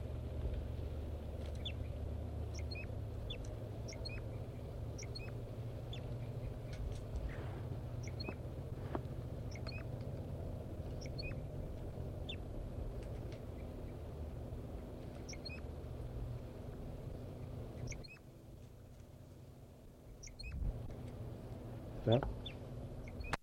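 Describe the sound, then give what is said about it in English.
Wild birds sing from the top of a deciduous tree about 50 to 60 meters away, short high chirps and whistled notes repeating through the whole stretch over a steady low rumble, with one louder rising note near the end. “4-3 is in song and singing robustly, but it doesn't seem to be affecting the birds.”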